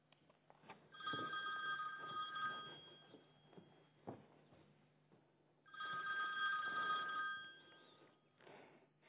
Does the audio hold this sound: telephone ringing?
yes